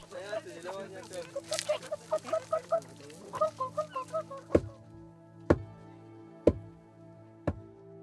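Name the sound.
hens clucking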